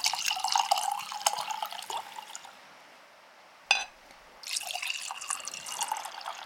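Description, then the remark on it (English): A tot of Zaire is poured into glasses: a steady trickling splash that pauses, then a short clink before a second pour begins, with no talking. “Look, let's have a tot of Zaire.”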